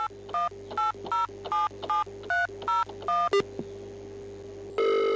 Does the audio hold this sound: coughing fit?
no